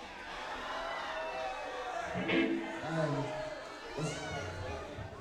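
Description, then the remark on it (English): A concert crowd, asked by the band on stage, imitates a cat's meow together, a loose, wavering chorus of rising and falling mewing tones over a background of murmuring, lasting a few seconds. “That was a pretty sad meow. You guys are a sick cat.”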